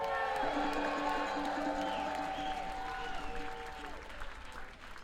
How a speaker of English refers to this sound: I'd love to give a big round of applause for …, everybody.